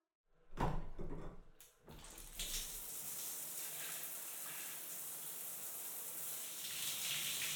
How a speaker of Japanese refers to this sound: 体についた泡、洗い流しちゃおっ